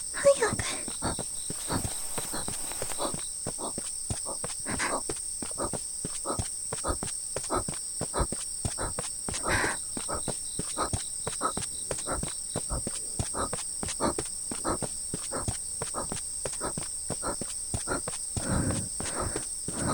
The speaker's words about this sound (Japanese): あ、足音、やだ、誰か来た。